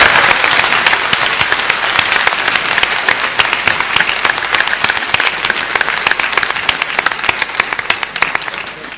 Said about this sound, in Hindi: तालियां जरूर बजाना, तालियां बजाइए।